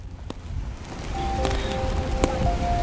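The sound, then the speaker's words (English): Steady outdoor rain makes a broad, hissing wash, with a few sharp drips or taps and faint tonal whines from street activity in the background, in downtown Brooklyn, New York City. “Were you in the rain?”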